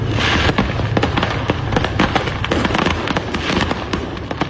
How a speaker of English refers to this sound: Right in the middle of the road. Fireworks show. Yeah. Damn. There ain't no stopping that. You ain't kidding. People are enjoying the show. Wow. The problem is that the fireworks are shooting in all directions.